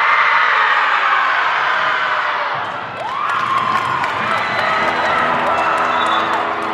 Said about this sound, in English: Before the opening buzzer, the Jaguars do a breathing exercise, a collective roar to get their nerves out.